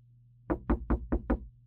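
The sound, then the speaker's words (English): Five quick, evenly spaced knocks on the wooden door of a locked janitor's closet, firm, with a low steady hum underneath and no voices. “Is that a door?”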